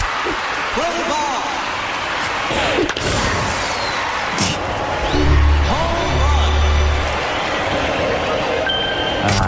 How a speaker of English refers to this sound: In 4th place for Dave Ranks, the sounds of different games in Wii Sports, we go to quite a crowd-heavy baseball.